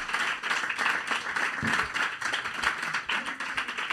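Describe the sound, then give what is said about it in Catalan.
A crowd applauds steadily for several seconds, a dense, continuous patter of many hands clapping at an even level throughout, with no voices rising above it. “Un aplaudiment.”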